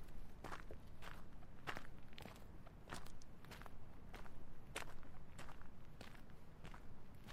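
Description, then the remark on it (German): Steady footsteps at an even walking pace, a dozen or so crisp steps over a low, continuous rumble in the background, with no voices. “11.235 Schritte.”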